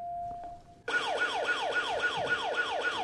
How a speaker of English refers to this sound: Every 15 minutes throughout the day, an alarm goes off, and an unwelcome visitor heads for one of the classrooms.